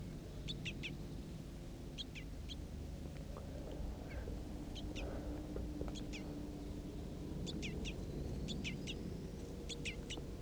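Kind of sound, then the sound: bird, crossbill calls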